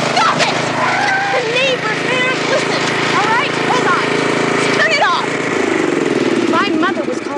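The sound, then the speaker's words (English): A lawnmower engine drones steadily and loudly throughout, a continuous low mechanical rumble, as a man stands on the moving mower trying to stand on its handlebars, while voices talk and exclaim over it. “She sees Ron standing on his lawnmower and attempting to stand on the handlebars as it moves.”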